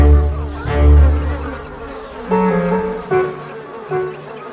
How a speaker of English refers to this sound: However, there was a buzz as the elderly queen bee entered the court.